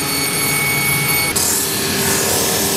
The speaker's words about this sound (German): Die Reste, die jetzt noch überstehen, werden jetzt mit einer Fräse und mit einem Schleifband weggeschliffen.